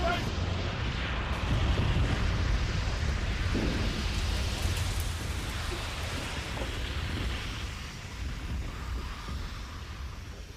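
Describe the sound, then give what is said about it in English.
A burning oil platform collapses amid a loud, continuous roar, with a deep rumble swelling in the first few seconds before easing into steady, wind-like noise. Indistinct voices are faintly buried in the din. “The whole bloody thing's coming down!”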